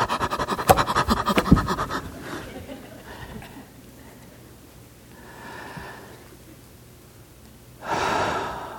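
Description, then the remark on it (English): A burst of rapid, shallow, frantic breaths, fast and choppy, fades into a few slower, softer breaths, then a long, deep inhale near the end. “Instead of this frantic, shallow breathing, breathe deep.”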